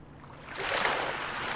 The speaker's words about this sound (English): He's sailing away over the River Styx. We're taking on water. We are taking on water.